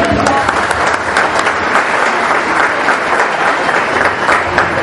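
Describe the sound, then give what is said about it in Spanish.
An audience at an evening meeting applauds steadily for several seconds to welcome a diamond executive speaker, a dense, loud wash of many hands clapping with no pauses, plus a few scattered voices mixed into the clapping. “Un aplauso.”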